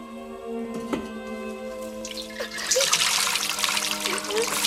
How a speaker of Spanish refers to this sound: Mira su imagen reflejada en las oscilaciones del agua y vierte la jarra en la nuca.